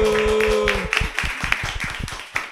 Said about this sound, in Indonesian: Tepuk tangan lu dong